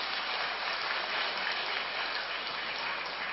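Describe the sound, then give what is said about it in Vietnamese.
A large audience at a 2017 Children's Day event at Giác Ngộ pagoda claps continuously, a dense, steady wash of applause lasting the whole moment with no voices standing out. “Hãy cho một tràng pháo tay thật lớn.”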